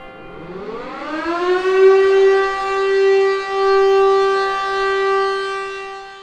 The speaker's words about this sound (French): Le carillon du beffroi qui laisse place à la sirène des pompiers, c'était dimanche matin lors de l'hommage à Dominique Bernard, professeur assassiné sur les marches du lycée Gambetta à Arras.